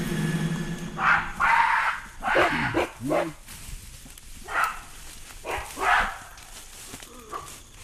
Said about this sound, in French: On a commencé déjà à entendre au loin un cri de singe, un cri de gorille.